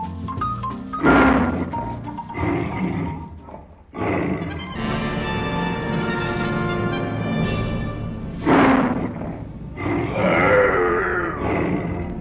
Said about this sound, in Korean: 호랑이의 으르렁 소리는 너무 무시무시해서 정글이 흔들릴 정도였어요.